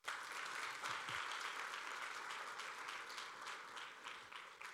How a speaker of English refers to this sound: Thanks. You can give these guys a round of applause.